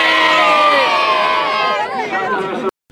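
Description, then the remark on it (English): A crowd of Westmeath supporters roars and cheers in one loud, sustained burst of many overlapping shouting voices, holding for a few seconds before cutting off abruptly. “Have you feeling there's a couple of youngsters around us one last roar?”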